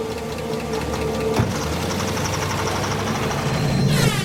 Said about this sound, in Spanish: Luego llegó un auto.